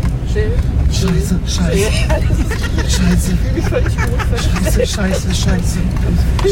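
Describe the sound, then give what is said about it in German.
A car drives through a water ford, rumbling steadily, with a constant wash of splashing and engine noise while people talk excitedly over it. “Jetzt fahren wir durchs Wasser.”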